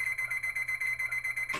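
An alarm clock set for 7 rings with a rapid, steady electronic beeping at a high pitch, pulsing about every tenth of a second before cutting off abruptly with a brief thump.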